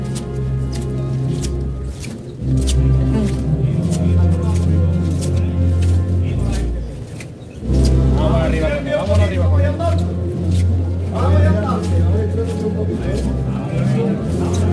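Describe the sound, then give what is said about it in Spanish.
Shoes squeak against cobblestones and pavement as a procession carrying the Virgin advances, in a run of short, high-pitched chirps that come in irregular clusters, with a steady low crowd murmur and some voices underneath. “Rechinando sobre el adoquín y sobre la acera que han dejado los hermanos de la Iniesta, que han pasado por aquí anteriormente.”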